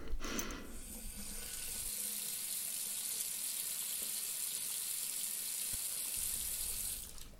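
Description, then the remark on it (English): A tap runs steadily for several seconds, a continuous hissing rush of water into a glass, fairly loud, then shuts off; no one speaks. “Would you like me to get you a glass of water?”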